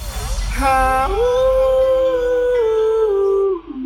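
A dog lets out one long, loud howl that rises at the start, holds a wavering note for a few seconds, then drops away, with a low rumble underneath.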